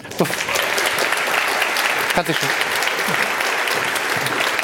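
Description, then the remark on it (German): A large audience applauds steadily for several seconds for two presenters, a dense wash of clapping that stays loud and even throughout, with faint voices or cheers mixed in. “Und einen bombastischen Applaus für die 2 wunderbaren Moderatorinnen unserer Infrastructure Review.”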